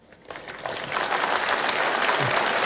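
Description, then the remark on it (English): A crowd claps, the applause starting sparse and quickly swelling into steady, dense clapping that holds at a fairly loud level throughout, with no voices over it. “They got a big clap though.”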